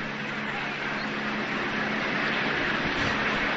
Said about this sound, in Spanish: Mientras escuchamos de fondo los helicópteros, en este caso, sí, los helicópteros en este caso de policía algunos y en otro caso con los de las cámaras de televisión.